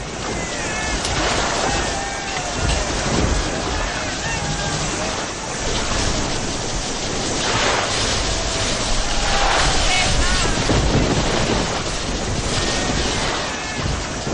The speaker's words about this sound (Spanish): Y para colmo de desgracias, después de la batalla se desencadenó una tempestad que intentan reproducir estos sonidos.